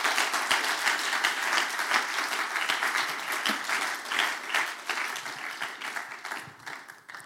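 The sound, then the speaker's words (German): A crowd applauds steadily for several seconds, a dense wash of many hands clapping at once, loud and sustained before tapering slightly toward the end. “Noch einen Applaus”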